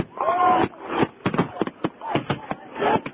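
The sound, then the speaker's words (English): A rapid, irregular series of sharp bangs and crackles from a professional New Year fireworks display right nearby, loud, with a murmur of voices from people nearby blended underneath. “Right next to the professional fireworks, apparently.”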